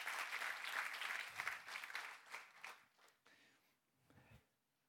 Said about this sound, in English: Give the Lord a clap real quick before I finish.